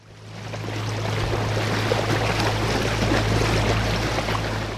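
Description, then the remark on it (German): A boat steered by a boatman travels on the Danube near the lighthouse of Sulina, Romania, where the river meets the Black Sea. Its engine drones low and constant beneath a broad wash of splashing and rushing water, fairly loud throughout. “deutet mit dem Kopf die Richtungen an, ohne seine riesigen Hände vom Steuer zu nehmen.”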